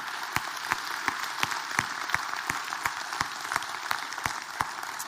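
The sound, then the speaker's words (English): A crowd gives God a hand clap for what he has done this year. It is a dense wash of clapping hands with sharper claps landing at a quick, even beat, sustained at a fairly loud level with no one talking. “And so I thought it'd be appropriate at this point before we're done today to stop and just give God a huge hand clap today for what he's done this year.”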